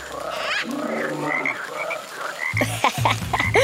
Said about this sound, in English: I think that frog likes our song.